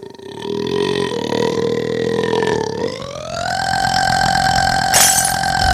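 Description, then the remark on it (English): A long, sustained burp at a Chinese restaurant rolls on for several seconds, loud, its pitch sliding upward midway and holding steady, with no talking over it. “Well, right now I'm gonna go for another restaurant record. Longest burp.”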